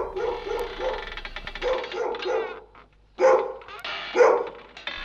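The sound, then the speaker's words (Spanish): A dog barks repeatedly, a run of quick, harsh barks followed by a pause and then two louder, sharper barks near the end. “¡Por allá, perro! ¡Cállese, cállese! ¡No me ladre!”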